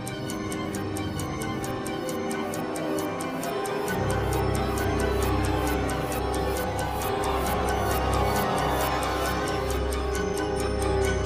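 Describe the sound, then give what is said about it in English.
A steady, crisp clock-like ticking runs through a film score for the Time Turner sequence, a few ticks per second, over sustained orchestral tones; a deep low rumble swells in about a third of the way through. “I like the way he used the ticking of the clock uh-huh. during the Time Turner sequence.”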